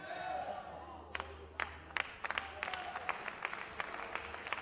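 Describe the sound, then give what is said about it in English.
A church audience claps unevenly, only some people clapping, with a handful of sharp, scattered claps rather than full applause, rising over a steady crowd murmur and low hum. “Only some people are clapping.”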